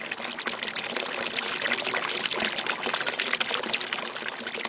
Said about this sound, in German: Schienen, aus Gusseisen unterteilen den Platz optisch und führen das Wasser in spezielle Regenbecken, wo es auf natürliche Weise versickert und gleichzeitig die Pflanzen versorgt.